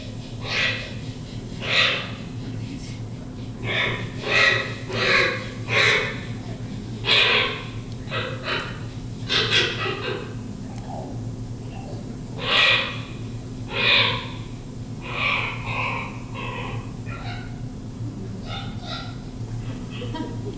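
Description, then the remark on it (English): A series of hoarse, croaking common raven calls repeats in irregular bursts over about twenty seconds, with a steady low hum underneath and no talking. “That's Dotson Sa, the great raven.”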